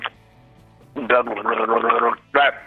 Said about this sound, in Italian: Bevo acqua per tenere le corde vocali.